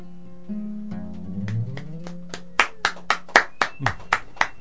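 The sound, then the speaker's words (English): A steady run of sharp hand claps, faint at first and then loud and evenly spaced, about eight strong claps at the end, over a low humming tone. “I clap for thousands. I do this all the time.”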